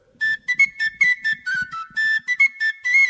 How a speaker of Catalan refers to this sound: Mira, això és que és un xiulet, però en forats.